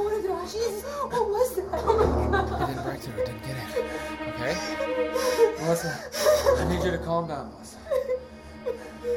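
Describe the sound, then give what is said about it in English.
Rapid panicked breathing with whimpering gasps, quick ragged breaths running continuously for several seconds over a steady tonal background. “Slow down, okay? Slow down your breathing.”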